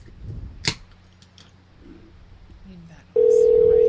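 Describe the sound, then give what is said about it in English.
After a soft click and quiet background hum, a loud, steady ringback tone from a repeated outgoing phone call to someone who has not answered starts abruptly near the end and holds without a break. “Let's try a couple more times. Just answer, you son of a bitch.”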